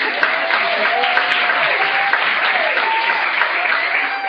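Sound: audience applause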